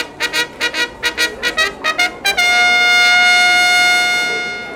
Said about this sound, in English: Let the show begin! The orchestra plays a fanfare. They look like soldiers.